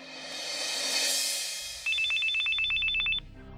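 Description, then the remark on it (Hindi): A telephone rings with a rapid electronic trill, a burst of quick repeated tones lasting over a second, clear after a soft whooshing swell, with no voices. It is a repeated call from Mumbai to a man in a village. “अर्जुन चाहकर भी गांव से निकल नहीं पा रहा था और उसे मुंबई से आशिमा के बार बार फोन आ रहे थे।”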